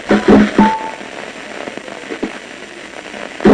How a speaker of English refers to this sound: the sound you're hearing, the sound of individual neurons inside the monkey's brain chattering away as it's about to make a decision. And this, coming up, is the sound of it actually deciding, right there.